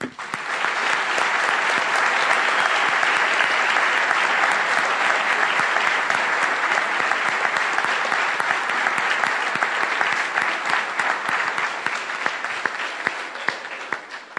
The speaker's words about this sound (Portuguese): Nós vamos aplaudir a Jesus que fez isso com a vida dele.